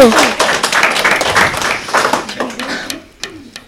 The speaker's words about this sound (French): Ils ont marqué 5 points. On peut les applaudir. Bravo.